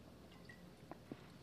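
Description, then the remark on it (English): Someone takes a quiet sip of water: two soft, wet little gulping sounds, about a quarter second apart, against near silence. “Just taking a sip of water there to cleanse the palate.”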